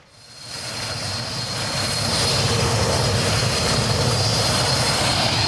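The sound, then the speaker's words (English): A loud aircraft engine at an airport in Sierra Leone roars up within the first couple of seconds and then holds at a steady, powerful drone, with a high turbine whine on top and no voices. “Most people, when they get to the airport for their weekend break, get a taxi.”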